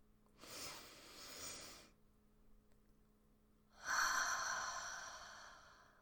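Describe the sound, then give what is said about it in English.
Two slow, deep breaths: a long airy inhale, a pause of near silence, then a louder, fuller exhale that trails off gradually. “Your breathing's a little off. Why not? Here, let me do it with you.”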